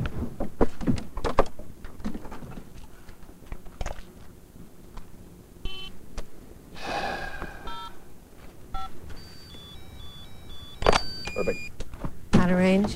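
car door opening

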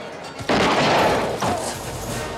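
gunshot

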